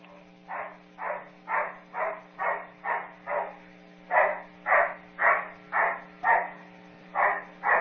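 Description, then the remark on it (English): A dog barks steadily and rhythmically, about fourteen sharp barks in two runs with a short pause between, loud over a low steady hum. “These are from the same dog because they're easier to tell if they're all from the same dog.”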